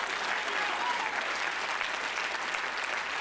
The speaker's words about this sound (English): Somebody clap your hands unto God this morning.